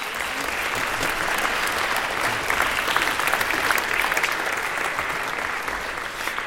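Sustained audience applause, a dense steady wash of many hands clapping at an even loudness for several seconds, with no voices standing out.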